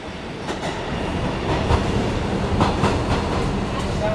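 A train rumbles by with a steady, loud roar and irregular clickety-clack of wheels over rail joints, set in a busy train station atmosphere.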